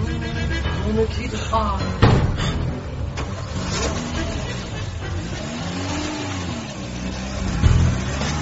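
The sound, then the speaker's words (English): A blue Renault, loaded with several boxes and a suitcase, has its engine turn over and rev, then settle into a steady drive as it pulls away. The engine noise is continuous, with a brief rise near the end. “She quickly loaded up the car and started out.”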